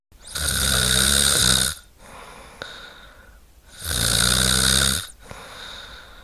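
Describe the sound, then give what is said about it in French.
Two long, loud, heavy snores from a sleeping person with severe sleep-apnea snoring, each lasting over a second, separated by quieter breathing pauses with a faint click in between. “Apnée du sommeil, un ronflement sévère qui gêne souvent les proches, est constaté dans 95% des cas.”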